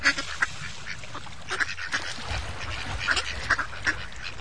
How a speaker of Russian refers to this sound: И все утки стали громко крякать в знак одобрения.